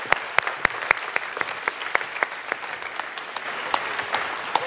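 An audience claps steadily for several seconds, a dense patter of many hands with a few sharper claps standing out, fairly loud, with no talking over it.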